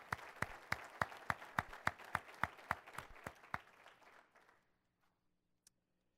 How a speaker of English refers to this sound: Please, a round of applause for the directors and the great service they provide our company.